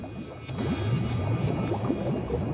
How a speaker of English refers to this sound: Churning plumes of bubbles surge upwards through the layer of cloud, erupting at the surface of the pit cenote.